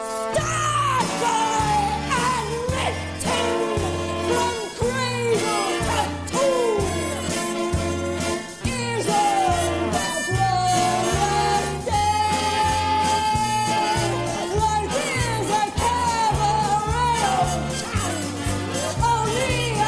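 A woman belts a musical theatre show tune from the Donmar Warehouse production directed by Sam Mendes, at full, near-shouting intensity over a loud, driving band with a steady pounding bass rhythm, sustained continuously throughout.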